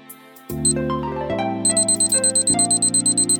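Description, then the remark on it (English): A ticking clock sound effect: rapid, steady ticks enter partway through and repeat evenly over low, sustained synth tones that shift pitch in steps. No voices are present. “The clock starts now.”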